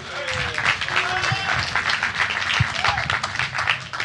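A crowd applauds steadily, a dense wash of many hands clapping at an even, fairly loud level, with a few faint voices and whoops mixed into the noise.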